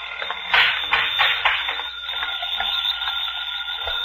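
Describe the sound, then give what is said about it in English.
A telephone bell rings with a loud, rattling metallic trill, pulsing in quick bursts throughout with no voices over it. “Say, isn't that your... Yeah, the phone.”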